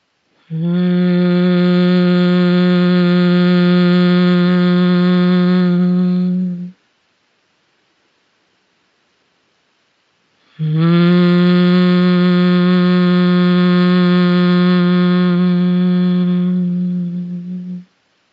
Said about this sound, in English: So I'm actually going to have you make a humming noise for just a minute to really enhance this sensation of vibration in your body. So with every out-breath, just humming something like this.